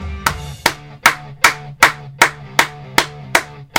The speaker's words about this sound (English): It's like we're clapping it out at Autzen right now. Clap it out.